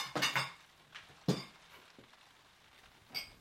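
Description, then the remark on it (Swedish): Dishes and cutlery being set out on a table in a living room in the evening for fika with juice and cookies: a quick cluster of ceramic and metal clinks, then a few scattered single knocks and chinks against a quiet background, with no talking. “Han dukar fram fika, saft och kakor.”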